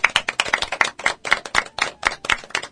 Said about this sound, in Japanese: 拍手、イエイ。